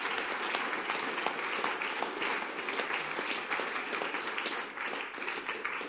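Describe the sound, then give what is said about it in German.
Sustained audience applause for the musicians, a dense wash of many hands clapping at steady loudness for several seconds, filling the space without pause. “Und ja, ich würde sagen, wir tun gerade allen Musiker miteinander schönen Applaus geben.”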